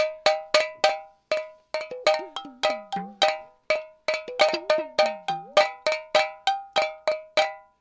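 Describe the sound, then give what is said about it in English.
Bright metallic clinks ring out in a steady, fast rhythm as spoons strike the tops of three water-filled mason jars of three different sizes with three different lid sizes, each hit sharp and resonant with a few differing pitches, some tones bending downward as they fade. “And that's three different mason jars, three different sizes, three different lid sizes, and they also have water in them, and you can tip them over.”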